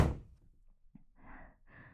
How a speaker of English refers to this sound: Get out and close the fucking door.